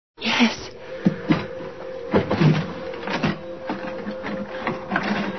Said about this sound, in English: Open the drawer